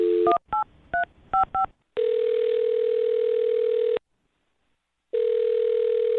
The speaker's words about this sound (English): Well, I'll dial her phone number right now and see if we can figure it out. Here we go.